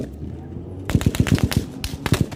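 Intense automatic gunfire, part of about four minutes of salvos recorded on a phone beside ambulances, cracks out in a rapid salvo of about eight sharp, loud shots, pauses briefly, then fires another short burst over a low, rumbling background.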